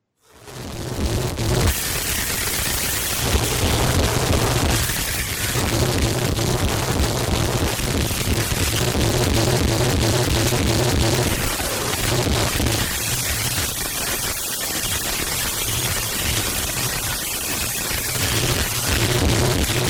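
A relentless wall of harsh noise music, dense full-spectrum static and grinding distortion with bursts and crackling pulses, loud and continuous throughout with no voices.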